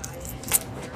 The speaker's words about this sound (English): Like some sort of magnet or something. Attaching my keys keep getting stuck on it.